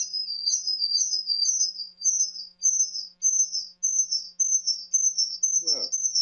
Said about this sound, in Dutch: Het vogeltje is er nog steeds. Nee. Nou is hij weg. Nou is hij weg.